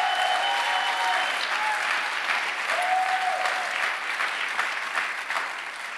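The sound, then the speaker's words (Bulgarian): Steady audience applause fills the whole clip, a dense wash of many hands clapping at an even loudness, with a few faint tonal swells underneath and a slight fade at the end. “О, ако ръкопляскаш, ръкопляскаш, че наистина вярвам.”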